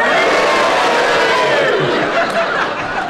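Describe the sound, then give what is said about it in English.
A large studio audience lets out loud, sustained booing to vote that Kenneth Williams is not virtuous, a dense wall of voices filling the whole stretch with some scattered laughter mixed in. “They booed your...”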